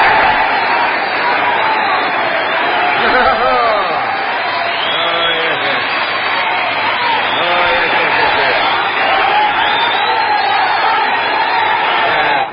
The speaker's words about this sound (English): Now, my applause, please.